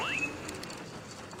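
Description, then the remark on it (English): A steady, hissing patter like rain falling, constant in the background of a replayed phone-call recording with the static turned low, soft and continuous throughout, with a brief rising whistle-like tone at the very start and no voices. “That sounds like rain.”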